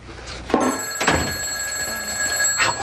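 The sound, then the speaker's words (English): A telephone bell rings with bright, sustained metallic tones, a loud burst near the start and another toward the end, with steady ringing between and no voices. “The phone's ringing.”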